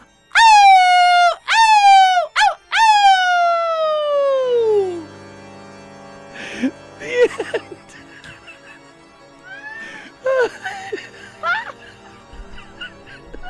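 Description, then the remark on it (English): A person does a loud, drawn-out wolf howl with a few short rising yelps before one long wail that slides down in pitch. Softer talking and laughter follow. “The door flung open, and the last thing we heard as we ran out into the night was a wolf howling at the moon.”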